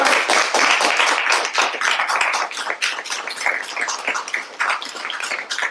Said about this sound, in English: So if you could just give them a round of applause.